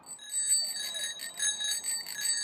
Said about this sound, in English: Why would you ring a bell on a bike? So that you can tell anybody who you're going to pass by that you're behind them and you don't scare them and they fall over or something.